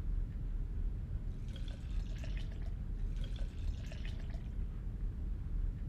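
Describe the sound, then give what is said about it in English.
A drink is poured into a glass in two short gurgling bursts, moderately quiet, over a steady low background rumble with no talking. “Pour me some. I thought you said it was too early. It's never too early to drink to a fallen friend.”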